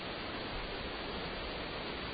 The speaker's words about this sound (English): So what I'm seeing is an incredible amount of rain and ongoing lightning. I can hear the thunder.